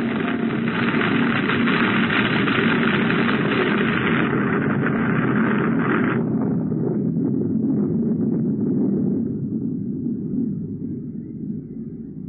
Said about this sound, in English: What was that? Get out of the car, quick! An avalanche!